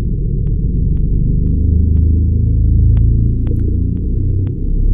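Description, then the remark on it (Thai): A large iceberg in the Antarctic region scraping along and resonating: a deep, continuous groaning rumble, loud and low-pitched, swelling slightly midway, with a steady series of faint high ticks pulsing about twice a second over it. No voices. “ครับหลายคนอาจคิดว่าเป็นเสียงเครื่องดนตรีดับเบิลเบสในวงออเคสตราหรืออาจจะเป็นเสียงรถบรรทุกที่กำลังวิ่งบนถนนใหญ่แต่จริงๆแล้วนี่คือเสียงภูเขาน้ำแข็งขนาดใหญ่ที่คลูดไปในแถบขั้วโลกใต้นะครับ The iceberg essentially is scraping along and more or less”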